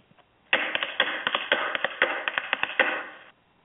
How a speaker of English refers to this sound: Would you like to see my tap dance now